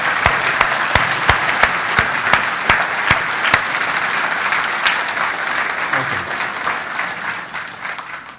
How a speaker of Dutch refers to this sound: Maar ik denk dat deze gezinsdienst een goede plaats is als we nou eens één keer al die broeders en zusters belonen met een daverend applaus. Laten we dat doen.